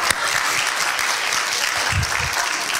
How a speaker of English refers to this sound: So, yeah. Well, yeah, applaud.